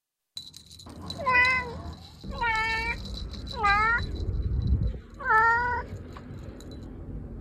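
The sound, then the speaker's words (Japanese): A cat meows four times in a row, each call drawn-out and rising then falling, fairly loud, with a faint steady hum and rumble underneath. “招き猫の生産数。”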